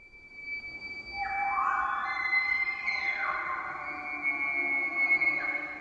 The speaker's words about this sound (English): Bulls make this sound to intimidate other bulls and attract cow elk. Elk have poor eyesight. They are sonic creatures.